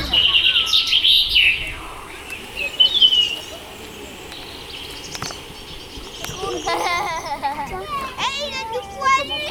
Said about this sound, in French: Oh, il y a un bébé oiseau qui chante. Oh, il y a un bébé oiseau.